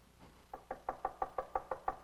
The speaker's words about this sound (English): Do you hear the knock? Have you opened the door?